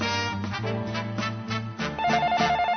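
A telephone rings with a melodic electronic ringtone, a steady tune of sustained notes stepping between pitches, clear and continuous for a few seconds with no one talking.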